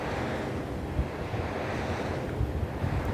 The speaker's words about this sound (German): Ich stehe jetzt hier unter einer der Windturbinen im Windpark in Zhanjiang. 25 Turbinen stehen hier der Reihe nach aufgereiht und über mir drehen sich die riesigen Rotorenblätter. Und rundherum hier ist Wüste Gobi, hier ist gar nichts.